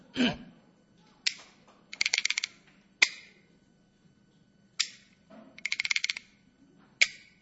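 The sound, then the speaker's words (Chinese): Yuzi, two small bamboo clappers used to accompany a traditional taiping geci song, clack sharply and dryly, alternating single crisp strikes with quick rattling rolls of several rapid clicks, repeating in a steady rhythmic pattern with no voices. “伴奏的乐器就是这个两个小竹片，这叫玉，这叫玉子， 都看得明白。 哎，这东西不好打。”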